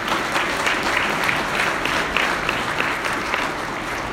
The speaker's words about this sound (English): Before you depart, let's give this group a nice round of applause.